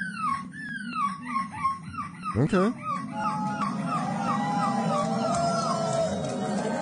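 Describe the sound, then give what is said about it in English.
A 9-year-old boy, winner of a European seagull imitating contest, performs on stage in a seagull costume, imitating seagull calls: a rapid series of high, falling squawks, then a rising shriek and more drawn-out wailing cries, loud over a murmuring, booing crowd, with a brief spoken word. “9-year-old winner of a European seagull imitating contest.”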